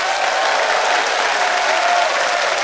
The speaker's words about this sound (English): Let's see what the audience decides by your applause.